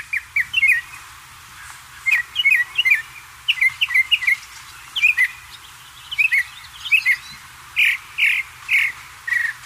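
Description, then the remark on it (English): A northern mockingbird sings a loud run of varied chirps and whistles, repeating each short phrase several times before switching to a new one that imitates other birds. No one speaks. “Now, can you tell some of the birds there that this bird is mocking, the mockingbird is mocking?”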